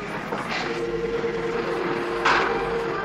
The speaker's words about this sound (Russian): Ой, уже поезд подходит. Слышишь, свисток?